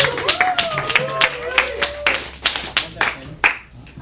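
An audience at a music show claps for the first performer in an uneven, scattered patter for about four seconds, with a rising whistle-like cheer and some murmuring voices mixed in before the applause thins out.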